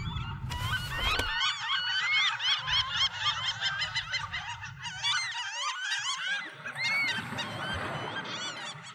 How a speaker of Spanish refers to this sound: Los rayadores vocalizaron y prioridad en los cuidados pidieron para los humedales de Tongoy y todos sus hermanos que por la postergación y la codicia humana casi desaparecieron.